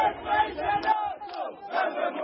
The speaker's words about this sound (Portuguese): Apesar da forte presença policial, os manifestantes reuniram-se à volta do local do assassinato e foram gritando alto e a bom som o refrão que marcou a campanha eleitoral.